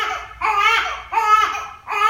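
A newborn baby girl cries in repeated high, strained wails, three bursts separated by short gasping pauses, loud and insistent with no one else speaking.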